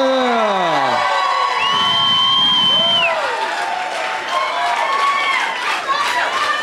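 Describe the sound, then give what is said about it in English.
A crowd in Houston cheers and applauds Mark Wahlberg loudly and without pause, high whoops and shouts rising and falling over a steady wash of clapping for the whole stretch. “Let's have one more round of applause for Mark Wahlberg, everybody.”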